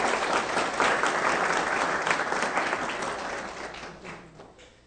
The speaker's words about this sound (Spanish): Quiero darle un aplauso a los hermanos, por favor.